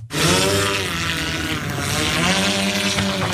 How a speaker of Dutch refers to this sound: Ja, dit geluid lijkt natuurlijk op een gasmaaier. Maar het is inderdaad een soort bobslee met vier propellers. Hij heet de Airspeeder MK3. Het is een multi copter, zoals dat heet. Mm-hmm. 4 meter lang, 130 kilo.